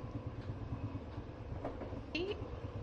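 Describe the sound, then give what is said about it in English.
A train rocks and rumbles steadily along the rails, a continuous low, heavy roar heard from inside a crowded carriage, with a brief high metallic squeal rising near the end. “I mean, the train is rocking and my ass is right there, so I can't really blame him”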